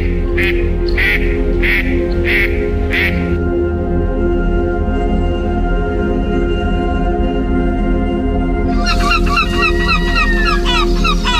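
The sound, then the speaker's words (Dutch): Ducks quack in a quick series of about half a dozen calls, then fall quiet before a busier burst of quacking near the end, over a steady low outdoor rumble, on the island of Brienenoord, a tidal park surrounded by water. “Als je hier bent en je ziet de eenden en je ziet dat water en de bomen en zo, dan ga je anders mee om dan.”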